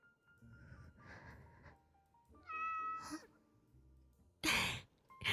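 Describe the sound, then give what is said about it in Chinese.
A cat lets out one clear meow with a rising-falling pitch, surrounded by soft breathy rustling and followed by a couple of sharp, loud huffs near the end. “小猫好像吃醋了，它们不喜欢别人离你太近呢。”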